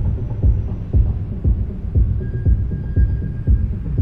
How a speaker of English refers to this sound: you can still hear traces of those parties. Acid tracks pulsing in the concrete. We went deep into the foundations. Concrete shells reverberating with unearthly sound.